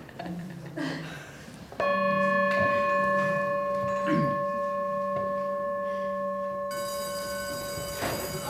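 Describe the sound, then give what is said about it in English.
A single bell is struck and rings out in a long, steady, shimmering tone with several clear overtones, slowly fading over several seconds. Faint background murmur precedes the strike. “So raise your hand when the sound of the bell is gone.”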